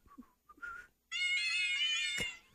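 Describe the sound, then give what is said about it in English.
A few quick, chirpy synthetic meows give way to one long, bright electronic meow held loud and close for over a second, from a downloaded cat piano app playing notes. No one speaks. “I just downloaded a cat piano so I could play …”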